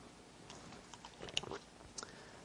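Someone takes a quick sip of a drink, with a few soft wet mouth clicks and a faint swallow against quiet background, no talking.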